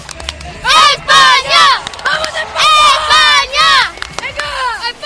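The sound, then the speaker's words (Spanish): Three siblings chant a football cheer for Spain in unison, dedicated to the team in Sydney, shouting loud, high-pitched syllables in short rhythmic bursts that repeat in a steady pattern. “Están aquí los tres hermanos muy positivos y les quieren dedicar un cántico que llegue a 18.000 kilómetros de distancia a Sydney.”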